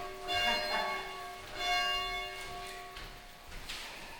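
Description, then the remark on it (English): A church bell tolls at a steady, unhurried pace, with about three strikes whose ringing overtones linger and overlap. It sounds fairly soft against a quiet background. “Oh, should I ring the bell? We'll wait for that.”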